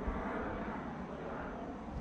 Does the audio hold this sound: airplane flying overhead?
yes